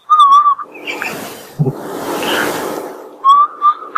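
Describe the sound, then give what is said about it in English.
A person whistles a short, steady, piercing 2600 hertz tone in imitation of a phone signal tone, pauses amid breathy rustling noise, then whistles the same brief tone again, loud. “You try to whistle a 2600 hertz sound.”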